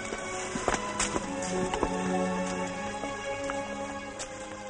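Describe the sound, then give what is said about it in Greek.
Horses ridden off by mounted riders, their hooves clip-clopping in a quick, uneven patter, with a steady tonal music bed running underneath. “Μπρος, καβαλάτε τα άλογα και πάμε να τη βρούμε.”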